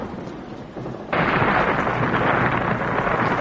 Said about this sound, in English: The storm gusted suddenly, and in a long, answering roar, the great walls collapsed.